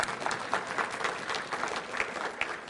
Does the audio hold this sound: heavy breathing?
no